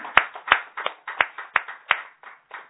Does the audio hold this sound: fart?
no